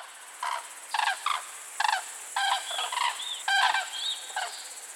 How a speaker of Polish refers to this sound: Zazwyczaj najpierw usłyszymy jednak głos żurawi, który jest bardzo charakterystyczny, dość dźwięczny.